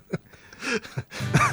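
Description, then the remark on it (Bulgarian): A few harsh, breathy coughs burst out, the last one longer and rougher, with short pauses between them and no speech. “Не кашли.”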